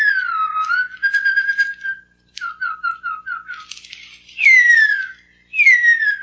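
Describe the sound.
A 1949 human-whistled recreation of the male call of the extinct huia bird: long, clear descending glides followed by short repeated chirping notes, high-pitched and fairly loud, with no talking.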